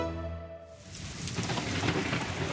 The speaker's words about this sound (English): The freezing cold front has brought rain, hail and snow.